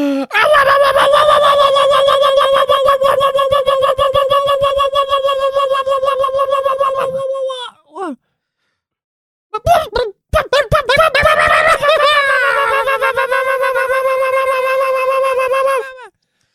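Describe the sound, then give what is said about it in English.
A bunker alarm sounds: a loud, piercing alarm call with strong harmonic overtones, sustained for about seven seconds, a brief pause with a few sharp bursts, then another long, rising, wavering cry. “You know, actually, I think that alarm, cool. That is like an alarm from the animal kingdom.”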